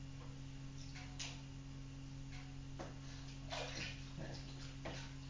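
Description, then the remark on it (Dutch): Several short bursts of water splashing and pouring over someone's head during a bath, irregularly spaced, over a steady low hum with faint voices in the background. “Zo over je hoofd, en mijn spettetjes over je hoofd. Dan ben je aan het douchen.”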